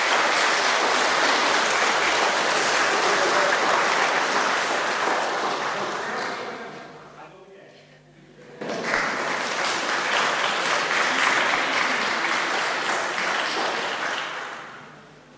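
A church audience claps loudly and steadily in farewell to a member going home to America, the dense applause dipping into a brief lull before surging back just as strongly and then tapering off at the end.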